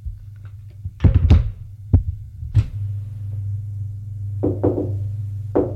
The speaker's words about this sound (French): On a frappé à la porte.